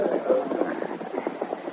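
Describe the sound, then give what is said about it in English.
Muffled horse hooves clip-clop at a steady, moderate pace, fairly loud, then slow as the horse comes to a stop outside a cabin along a river. No one speaks. “In the cabin along the river, Larry Rowland awakened from a doze and sat up as he heard a horse stopping outside.”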